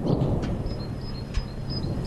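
A distant explosion from Russian artillery shelling in the city of Severodonetsk, Ukraine, rolls in as a low, heavy rumble with a faint thud partway through, sustained over steady background noise with no voices.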